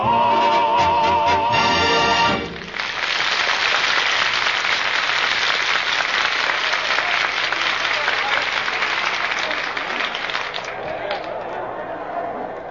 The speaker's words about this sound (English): look at that crowd. Look at that bloodthirsty mob waiting for us to start.